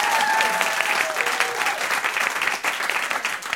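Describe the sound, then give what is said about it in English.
Concert Club members in Studio A at KUTX 98.9 in Austin clap steadily during a live radio broadcast, a dense wash of overlapping hand claps holding a loud, even level for a few seconds with no voices on top. “Clap so they know I'm not lying.”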